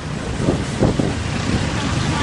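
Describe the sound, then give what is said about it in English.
A boat being thrown about in rough, dangerous seas during a rescue, with steady roaring wind across the microphone and heavy low thumps and surges of waves slapping the hull, loud throughout. “And you can see how dangerous these conditions are. The boat is being thrown about.”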